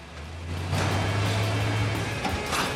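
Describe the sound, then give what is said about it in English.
An old, battered car speeds into a car wrecker's yard, its engine swelling from quiet into a loud, steady roar with rattling road noise for a couple of seconds. No one speaks. “old, battered car comes speeding in.”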